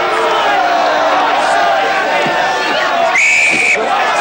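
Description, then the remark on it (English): A referee's whistle, blown by Mackay for the restart of a football match between a showbiz team and prison players, gives one sharp, steady, high-pitched blast lasting about half a second. It cuts through the continuous roar and shouting of a crowd. “Mackay blows for the restart.”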